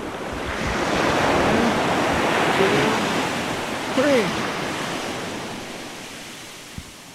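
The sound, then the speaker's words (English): Ocean waves break on shore in a steady, rushing roar that swells over the first few seconds and slowly eases off, while a voice speaks a few short words over the surf. “Greta the puffling flaps hard, and she glides out past the breakers into calmer waters, where we see her land and float and start to swim away.”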